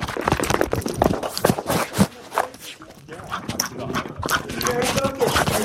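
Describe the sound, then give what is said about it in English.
The dog Ray Ray scrambles down a hard-floored hallway after a thrown ball, claws skittering and tapping in a quick, busy patter with faint jingling, continuous for several seconds. “A ball is thrown down the hallway.”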